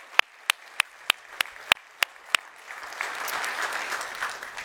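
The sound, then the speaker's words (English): A few sharp, evenly spaced claps ring out alone, then a full audience joins in applauding the life group leaders, and the applause swells into a steady, dense roar. “We can applaud them.”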